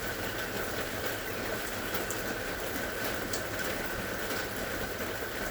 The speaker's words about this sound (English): Listen to the rain. Listen to the sounds the rain makes as it hits the tin roof and other objects nearby.